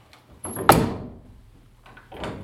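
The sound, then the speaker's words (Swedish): A door on the second floor swings shut with a short high squeak and then a solid thud that rings out briefly, followed by quieter shuffling and a softer knock near the end. “Den här dörren här har vi hört när vi stod hela gänget inne i ett rum här. Så här lät det.”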